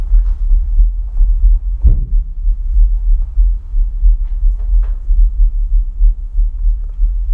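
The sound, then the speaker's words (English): An amplified human heartbeat thuds steadily and fairly quickly, each deep, muffled double-beat booming through a constant low hum, with a few faint scrapes and clicks over it and no voices. “Let your heartbeat go up for just a little bit.”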